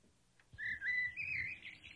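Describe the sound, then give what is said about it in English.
Seagulls calling in a drawn-out, wavering high cry that starts after a brief quiet moment and carries on steadily, with a low rumbling background beneath it and no voices. “And you don't want it tracking into the seagulls, yeah.”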